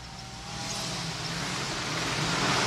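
A helicopter flying overhead above Avenida Paulista near the MASP during a live news report on a fire brigade rescue: a dense, steady mechanical roar with a low rumbling drone that gradually swells louder across the few seconds, with no voices.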